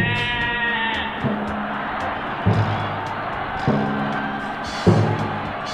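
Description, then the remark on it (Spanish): Several sheep bleat in overlapping, wavering calls, with fresh bleats breaking in roughly every second or so over a steady, busy flock background, fairly loud. “Esto no funcionó, ya que las ovejas, al enterarse, ¡a la marcha!, huyeron hacia la marcha.”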